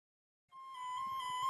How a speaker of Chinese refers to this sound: 只要它出现了，无论是男女老幼、贫富贵贱，我们都会在约定的地方来等它的到来。有想到是什么音乐吗？没错，就是我们无人不知、无人不晓的垃圾车音乐。